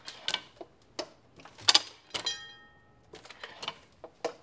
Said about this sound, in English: And you know, it doesn't have to be there. The ding, ding, ding is just sweet. It's just a little extra. It's not necessary to the operation of the press. And it's this beautiful little piece back here that's hitting. It's a pretty simple mechanism.